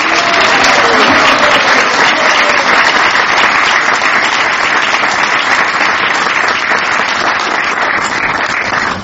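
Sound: loud round of applause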